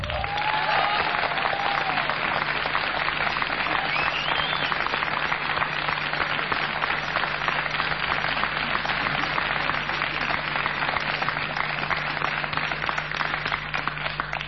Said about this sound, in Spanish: Tenemos el honor de estar compartiendo este concierto con una gran artista de Cuba. Quiero que reciban con un fuerte aplauso a ….